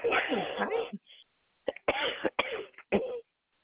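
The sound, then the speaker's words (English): A person coughs in a harsh fit: one long rasping cough, a short pause, then a cluster of four or five quick, forceful coughs in rapid succession. “Gosh, stupid cough is driving me nuts.”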